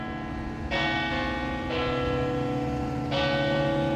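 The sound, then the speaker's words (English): Church bells in the Polish neighborhood of River West ring out in three resonant strikes about a second or so apart, each tone sustaining and overlapping the next in a rich, steady hum with no voices present. “Church bells were ringing all the time.”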